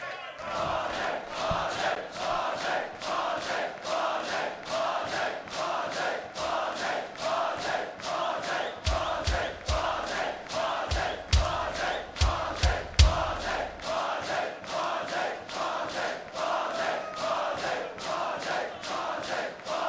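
A concert crowd at a rock and roll show roars for the band to come back on stage for an encore, a dense, continuous wall of screaming and cheering driven by steady rhythmic clapping or stomping, with some deeper thumps joining in partway through.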